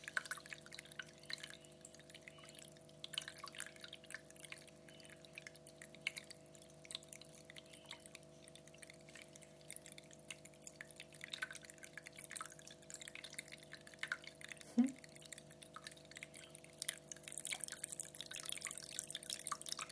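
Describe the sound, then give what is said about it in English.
Water drips and trickles steadily, a continuous patter of small splashes over a low steady hum, growing a little louder and brighter toward the end. No one speaks. “Just put my hand under the flow of water.”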